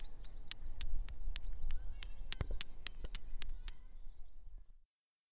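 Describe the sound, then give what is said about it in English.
A stone is tapped against another stone about a dozen times in an uneven rhythm, each a sharp click over a low outdoor rumble with faint birdsong. “I'm tapping a stone on a stone.”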